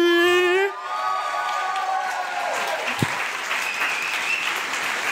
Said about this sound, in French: Merci. Merci beaucoup pour ces applaudissements. Vous allez voir que c'est totalement mérité.